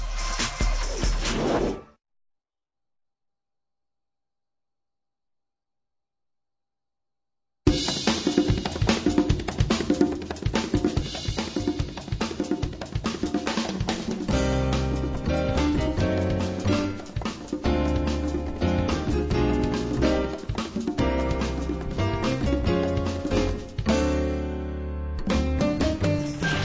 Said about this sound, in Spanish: Vamos a hacer una pequeña pausa musical. Regresaremos.